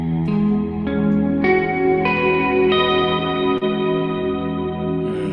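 A guitar chord (open low E string, index finger barring the 11th fret on the other strings, middle finger on the B string at the 12th fret) is strummed with heavy reverb, then re-struck several times in a steady rhythm, each strum ringing into a lush, washed-out sustain with no talking.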